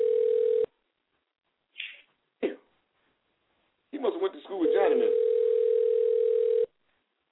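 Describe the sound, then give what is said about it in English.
A telephone call ringing out as a man calls someone again after an earlier unanswered call: a steady, low electronic ringback tone sounds in a brief burst, then again for about two seconds, with the man's voice talking between the rings. “I'm going to call him again now.”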